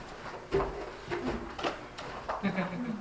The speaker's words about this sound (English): I'm going to actually change the chair. This is a bit low.